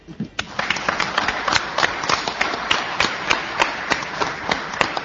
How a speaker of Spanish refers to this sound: Así que en este caso, primero vamos con otro aplauso.